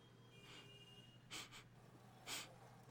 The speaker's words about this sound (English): So, let's see if I can sniff out your family.